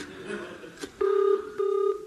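A telephone in a phone box being dialled to call a warehouse: two steady electronic tone bursts, each about a third of a second, follow a brief muffled clunk over faint background hiss.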